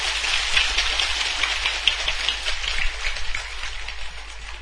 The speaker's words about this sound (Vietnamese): Tràng vỗ tay giòn giả đó như là một lời cam kết và như là một sự phát nguyện.